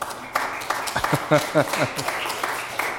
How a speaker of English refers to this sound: Oh, happy anniversary. Yeah, we can give a big hand.